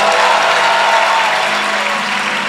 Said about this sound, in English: Clap your hands for Jesus. And shout for Jesus. And clap for Jesus.